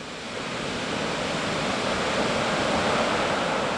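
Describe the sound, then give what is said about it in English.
A steady, dense, loud roar of ocean surf at the Pacifica Pier as a storm comes in, in light drizzle, swelling slightly over a few seconds with no distinct breaks between waves and no voices. “Down near the Pacifica Pier, people are starting to gather to watch the incoming storm.”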